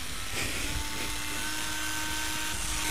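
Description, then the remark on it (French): A motorized device that rotates and vibrates, with a hard metallic part, runs steadily for the whole stretch, giving a constant whirring hum with a faint high whine on top and no voices. “Oui, c'est rotatif, ça vibre.”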